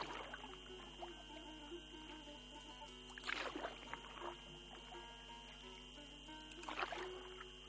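Oars dip and splash in sea water from a rowboat heading to Ashurada Island: a few distinct wet strokes spaced a couple of seconds apart over a steady low background hum, moderately loud.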